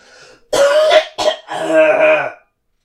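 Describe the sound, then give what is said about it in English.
A loud bout of harsh, phlegmy coughing and throat clearing: three rough bursts in quick succession, the last a longer gravelly hack, with no talking. “Just going to cough really gross for a sec.”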